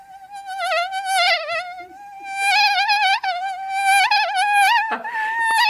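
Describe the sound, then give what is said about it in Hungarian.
A person imitates a mosquito with a continuous high, whining buzz that wavers in pitch, sustained and fairly loud for several seconds with only brief dips. “Amit én a legjobban szeretek, az a szúnyog, az szintén saját szabadalom.”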